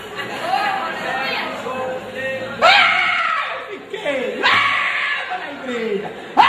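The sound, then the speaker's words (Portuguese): An audience shouts and cries out together in a loud, overlapping din, with surges of louder yelling rising every couple of seconds, continuous throughout. “Eu não sei para que tanto grito.”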